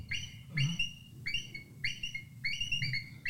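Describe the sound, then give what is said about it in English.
An eagle gives a series of short, thin, squeaky bark-like calls in quick clusters, fairly faint and high-pitched, over a low steady rumble. “They have surprisingly weak calls for how majestic and big they are. It's more like a bark.”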